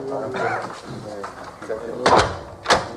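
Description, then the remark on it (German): A door swings shut with a dull thud, then a second sharp clack follows as the door is locked, shutting a group of men in. Voices murmur underneath throughout. “Wird man denn hier eingeschlossen? Das wusste ich gar nicht. Ja, natürlich schließen die uns ein.”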